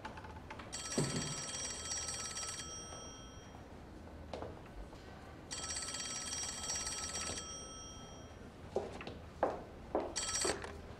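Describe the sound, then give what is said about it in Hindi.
A telephone rings in long, bright, buzzing bursts, two full rings about three seconds apart and the start of a third, loud over a quiet background with a few faint knocks. “अभी आपके लिए फोन आया था।”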